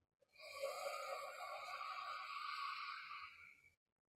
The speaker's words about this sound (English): Here, let's do it together 3 times. Breathing in. Blow out through a straw.